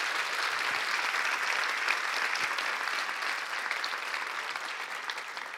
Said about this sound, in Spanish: Dale un aplauso a ese Dios todopoderoso.